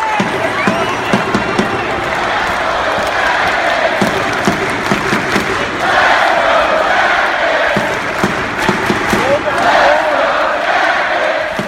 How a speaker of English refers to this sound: While these fans were happy to get back to the usual CBJ routines, it's hard for 1,953 people to make the wall of sound a sellout crowd of more than 19,000 can produce.